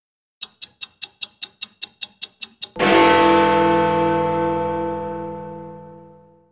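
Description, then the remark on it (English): A quick run of about a dozen sharp ticks gives way to one loud, resonant clock chime whose bright, bell-like tone rings on and slowly fades over several seconds. “Suddenly, a clock strikes.”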